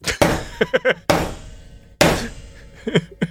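Three heavy, booming knocks pound on a door at slow, even intervals, each ringing out briefly, with quicker, lighter rattling thumps in between.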